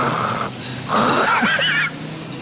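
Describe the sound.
A voice imitates snoring: a short breathy rasp, then a longer, louder throaty snore with a wavering, gurgling tone, unaccompanied by speech.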